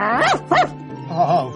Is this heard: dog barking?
yes